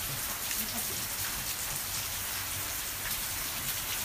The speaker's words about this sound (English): My goodness, everyone, this is a summer downpour. I just went because the gutter's leaking, as you can hear, it's overflowed. And it was falling on top of an old food waste bin.